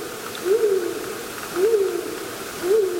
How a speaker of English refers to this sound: He sounds a little forlorn there. I hope the mate shows up. That is one relentless owl. Yeah, it keeps going.